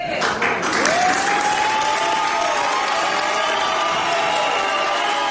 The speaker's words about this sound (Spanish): Aplausos y también abucheos a Compromís, que decidió apoyar al candidato popular José Luis Susmoza, ya alcalde de la localidad